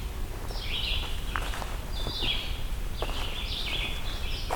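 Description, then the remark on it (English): Short, clear bird song phrases repeat in a steady pattern, separated by brief pauses, over a low outdoor rumble with a few faint rustles or steps. The songs are red-eyed vireo calls ringing through a forest. “It's really nice how loud the red-eyed vireos are in here.”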